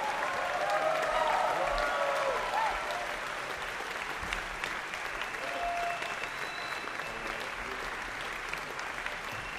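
Sustained applause from a jazz concert audience at Jazzport Townsend, a dense steady patter of many hands clapping, loudest at the start and holding fairly even throughout, with faint whistles and cheers mixed in.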